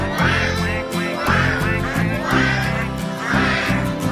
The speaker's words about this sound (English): That is what ducks say.